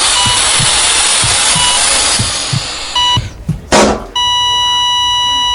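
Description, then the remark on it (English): A heart monitor flatlines: soft rhythmic thumps under a steady hiss give way to a brief tone, a burst of noise, then one unbroken, high electronic alarm tone that holds to the end. “Whoops, flatline.”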